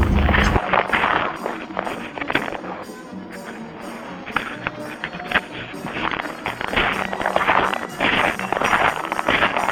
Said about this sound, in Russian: Так хрипит наш снег. Это наши шаги.